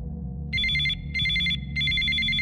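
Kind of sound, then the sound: signal or alarm, telephone ringing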